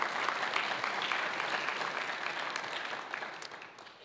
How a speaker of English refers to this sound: And so when you get a chance, that's right. You can clap now. That's fine.